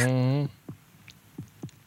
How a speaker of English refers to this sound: It's a freaking heartbeat sound. How did they fucking do that? Jiggling it. Insane fucking effect, man.